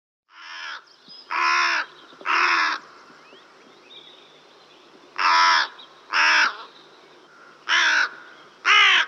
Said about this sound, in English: The crow that we are most familiar with is the carrion crow. It is completely black and makes a hoarse, cawing sound.